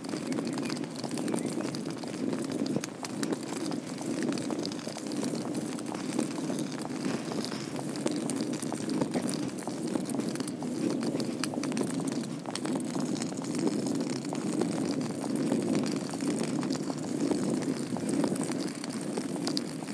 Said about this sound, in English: Rain there. Give you a second to hear it, how much water's going down it. Quite a lot.